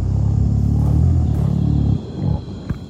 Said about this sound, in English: Gorillas sing and they hum when they're eating. If you talk to a zookeeper, they'll probably be very familiar with this. But actually, gorillas also do it in the wild. So here's a clip of a gorilla humming.